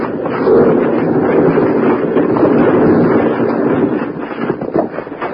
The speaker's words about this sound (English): suddenly look up to see a landslide crashing down on them. As they start to run, huge rocks smash all around them.